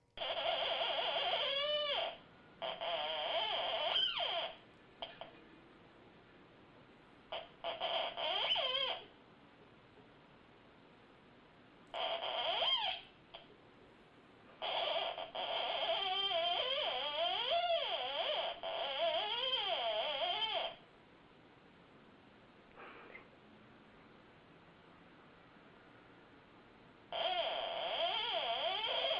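A cat plays a theremin in a YouTube video, producing wobbly, swooping electronic tones in irregular bursts of a few seconds, separated by quiet gaps, with no one talking.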